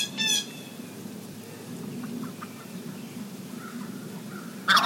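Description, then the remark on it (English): A wild turkey hen gives short, raspy calls, one burst at the start and another at the very end, over a steady low outdoor rumble with quiet stretches between. “There goes the hen.”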